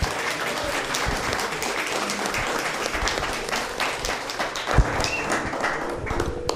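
An audience in Aranjuez applauds steadily for several seconds, a dense, even patter of many hands clapping at a constant loudness with a few sharper claps standing out, applauding an 80-year-old woman honoured for her dance work.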